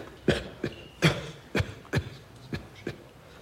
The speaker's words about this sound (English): If you could attempt to suppress your cough.